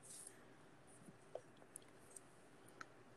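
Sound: computer mouse clicking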